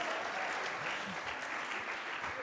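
Steady applause from an audience, a dense wash of many hands clapping at an even, sustained level for a few seconds with no voices standing out.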